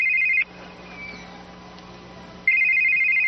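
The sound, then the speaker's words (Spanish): A telephone rings loudly: a brief electronic trill at the start, a two-second pause with faint background hum, then the ring starts again near the end; a call to the next president of Colombia. “Teléfono al próximo presidente de Colombia, ¿quién habla?”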